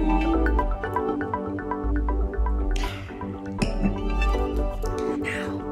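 Soft wet sipping and swallowing noises as people who have just toasted slowly raise their glasses, take a mouthful of alcohol and swallow; a couple of brief slurps around the middle, over steady background music, with no clear glass clink.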